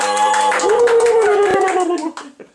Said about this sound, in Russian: раз вы тут есть группа поддержки, значит, давайте вы тогда, значит, так, девочки аплодируют, а вы будете вот так делать. Вот так. Давайте. И раз, два, три. Давайте.